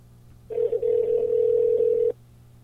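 A steady telephone dial tone sounds for about a second and a half as a call back to a caller is placed, with a brief stutter near its start, over a faint low hum. Nobody speaks.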